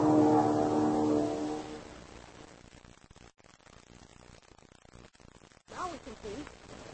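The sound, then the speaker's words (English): A small propeller plane drones overhead as it comes in to land at an airfield, its steady harmonic hum loud at first and then fading into a rough, noisy rumble, with a brief voice near the end. “Listen, I hear a plane.”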